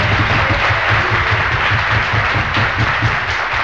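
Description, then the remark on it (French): Sustained applause for the president from a crowd at a meeting of board administrators, dense and steady throughout with no talking over it, loud. “Applaudissements spéciaux pour le président.”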